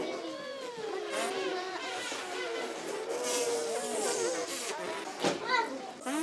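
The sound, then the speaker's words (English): Several children buzz their lips tightly together as they learn to play a brass instrument, a cluster of overlapping, wavering pitched buzzes that slide up and down continuously, steady, with a few sharper bursts near the end. “It's actually more like a bee than a horse.”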